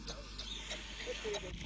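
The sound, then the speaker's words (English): A kangaroo makes soft, quiet clicking sounds mixed with faint high squeaks, scattered irregularly over a low background hum, with muffled voices murmuring underneath. “Soft clicking noises.”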